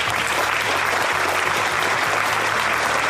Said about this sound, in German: Standing Ovations für den Altbürgermeister, der die vielen Interessierten am Wochenende dann auch noch persönlich durch das Eventcenter geführt hat.